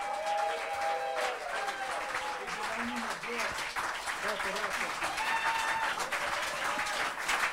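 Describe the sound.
An audience breaks into sustained applause, a dense steady roar of clapping that holds for several seconds, with scattered cheers and voices rising through it.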